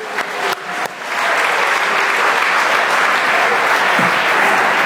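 A church audience at Christmas bursts into applause for a golden ticket prize winner, a few scattered claps quickly swelling into steady, dense clapping that holds loud and even for several seconds with no voices over it.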